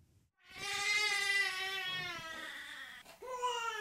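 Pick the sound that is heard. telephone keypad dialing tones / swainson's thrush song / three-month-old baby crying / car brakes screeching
three-month-old baby crying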